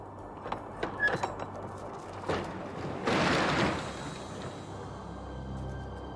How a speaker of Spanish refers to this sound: Ya más tranquilo, el camionero abre la puerta.